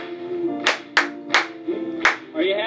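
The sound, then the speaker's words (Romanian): A few sharp, loud hand claps, clapping for the Lord during a song of praise, land at uneven intervals over a steady tonal backdrop of voice or music. Four distinct bursts stand out rather than a continuous wash of applause. “Hai doar să o aplaudăm lui.”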